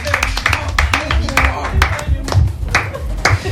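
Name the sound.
audience applause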